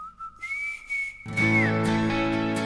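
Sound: person whistling a tune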